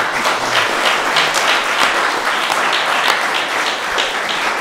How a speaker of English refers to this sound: I think with that, we'll wrap this panel up. I want to give a huge round of applause.